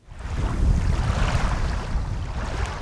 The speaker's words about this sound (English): A slight breeze ripples water from the southern end of Long Lake onto the property